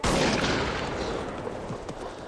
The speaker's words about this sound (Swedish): Fast om man nu tyckte den var så gullig, varför skjuter hon då en gevärskula in i kroppen på den lilla grisen?